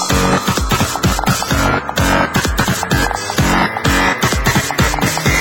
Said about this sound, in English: Okay, now we need some fat distortion. More distortion.